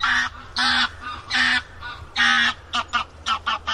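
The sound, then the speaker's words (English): A goose honks repeatedly overhead, loud harsh calls in an uneven series, the first few longer and the last several quicker and shorter, with no one talking. “This helps us tell if the sound is coming from the right or left, like that noisy goose flying by overhead.”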